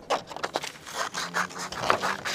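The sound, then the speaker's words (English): Crisp paper rustling and scraping mixed with short snipping, cutting sounds come in irregular bursts as a group makes collages at a table covered with paper and glue. It is fairly quiet, with no one speaking. “The group moves over to a table covered with paper and glue to make collages that reflect the stories they just heard.”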